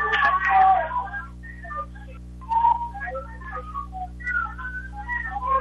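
A referee's whistle gives a sharp, trilling blast starting the third period of a 133-pound wrestling match, followed by scattered short whistle-like chirps over a low steady hum.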